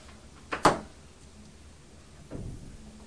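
A neighbour's door next door bangs shut in very windy weather, a sharp knock followed a couple of seconds later by a duller, softer thud, both muffled against a quiet background.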